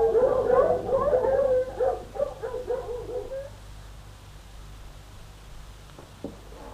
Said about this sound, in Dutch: Die honden? Onzin, die blaffen zomaar een beetje, omdat honden het plezierig vinden om te blaffen.